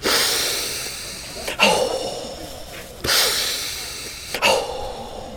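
Loud, close heavy panting, with deep rasping breaths drawn in and pushed out in a steady rhythm, a sharp new gasp about every second and a half. No talking.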